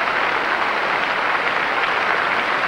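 A large Edinburgh audience at the Eurovision Song Contest cheers and applauds the United Kingdom's entry, a dense, steady roar of clapping and shouting that holds at an even, loud level for the whole stretch, with no voices speaking over it.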